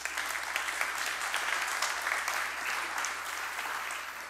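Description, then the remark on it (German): An audience applauds five people steadily, a dense wash of many hands clapping at even loudness throughout, with a low steady hum underneath and no voices. “So, erstmal nochmal einen Applaus für unsere 5.”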